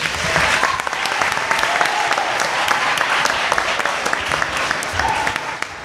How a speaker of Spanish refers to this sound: Un aplauso para